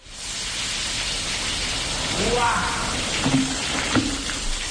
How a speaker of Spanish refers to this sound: Así llovía a cántaros este sábado, pero dentro del nuevo parador de Molina, a pocos días de su apertura, que por cierto, se ha pospuesto.